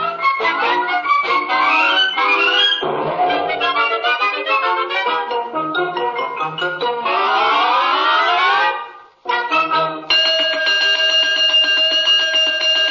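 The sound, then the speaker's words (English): A loud ringing alarm bell effect, the 'cosmic alarm' in the radio play The Undecided Molecule, clangs continuously in layered, shrill tones with swooping pitch sweeps, cuts out briefly, then resumes as a steadier, piercing ring with no voices. “The cosmic alarm.”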